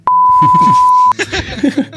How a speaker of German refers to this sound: Ja, gib wieder mal einen Pieper für